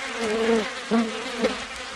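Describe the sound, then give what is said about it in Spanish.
A fly buzzes with a steady droning hum that rises and falls in pitch as it moves around, briefly swelling louder a few times, with no voices. “Él dice que incluso podría ver de otra forma a las moscas.”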